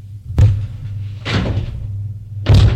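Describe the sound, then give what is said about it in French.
A door slams shut behind a man with a sharp, heavy bang, followed by a brief rattling scrape and then a second loud thud, over a low steady hum, with no voices. “La porte s'est refermée derrière Maurice.”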